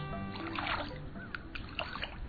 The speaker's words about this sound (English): It's 27 degrees outside, and a robin is rolling and flopping in the bird bath, flinging water every which way.